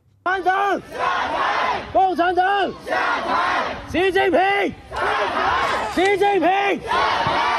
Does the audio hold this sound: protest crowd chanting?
yes